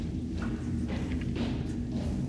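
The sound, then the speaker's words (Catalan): A guard's muffled footsteps walking away down a corridor past a cell at an unhurried, uneven pace, soft thuds over a steady low rumble, with no voices. “El lloc és massa fosc per veure més enllà del que tens més a prop, però sembla que la teva no és l'única cel·la, ja que sents les seves passes allunyant-se durant una bona estona.”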